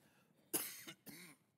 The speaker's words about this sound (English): Excuse me, I've had a cough this week, and it's coming on right now. I'm going to get some water.